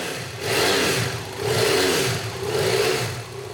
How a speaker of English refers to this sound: Brigitte takes me to a back room in the warehouse to show me her motorcycle, a BMW F800. She revs the bike.